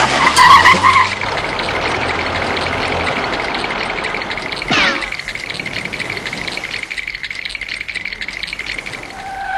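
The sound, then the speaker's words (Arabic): A car skids with a long, loud tire squeal over rattling engine noise, a sharp jolt partway through, then the screech trails on with a high whine near the end. “الحق تلك السيارة.”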